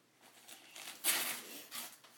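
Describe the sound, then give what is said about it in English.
Wrapping paper crinkles and tears off a gift, a series of soft rustling pulls building to one sharper rip midway, then a few more crinkles, fairly quiet with no talking. “Pull it off, bug.”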